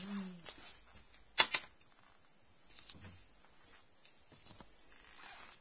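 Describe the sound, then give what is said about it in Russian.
A die is rolled onto a table during a tabletop game: one sharp knock, then a few lighter rattling taps spread over several seconds, fairly quiet, with no one speaking. “Кидай кубик, скотина. Кидай кубик.”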